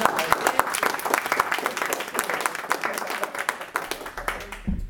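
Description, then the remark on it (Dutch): A crowd applauds steadily for a choir's board, many hands clapping in a dense, continuous patter that stays fairly loud throughout before tapering off at the very end. “Dus ook graag even daar een applaus.”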